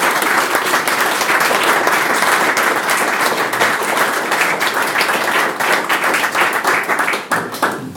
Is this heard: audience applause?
yes